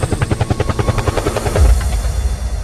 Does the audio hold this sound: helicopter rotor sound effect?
yes